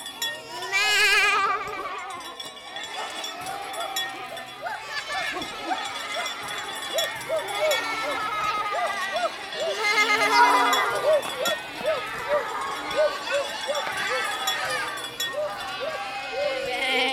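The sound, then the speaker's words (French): A large herd of goats wearing bells bleats continuously as they approach a village, many overlapping cries, with faint clinking of bells and the shuffle of animals moving along throughout. “Et nous, on entendait à 500 mètres avant qu'elles arrivent au village, on entendait déjà le son de toutes ces bestioles.”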